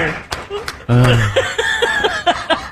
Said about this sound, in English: Courtesy applause.